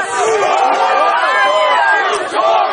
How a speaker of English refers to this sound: And it parts! Go, go! It parts! It's down! Our guard! Our guard! Crowd surges forward! Barriers are down!